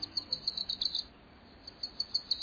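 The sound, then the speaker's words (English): A Wilson's warbler, a tiny yellow bird, sings a rapid series of high, thin chirps, briefly pauses, then resumes the same quick chattering run. The song is fairly soft and stands alone, with no voices. “It's the tail end of summer, and the Wilson's warblers had a busy few months.”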